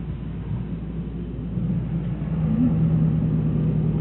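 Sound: car engine passing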